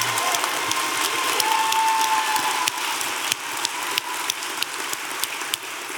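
An audience at an evening show hosted at Sixth and I breaks into steady applause, a dense wash of many hands clapping at an even loudness for several seconds, with sharper individual claps standing out now and then and no one speaking.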